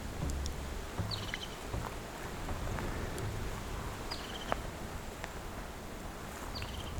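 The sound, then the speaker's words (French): Soft, steady ambience of a mixed fir forest with a constant airy rustle, broken by a few brief high bird chirps that come about every three seconds, faint and sparse against the background. “Une forêt mixte, sapinière et trait.”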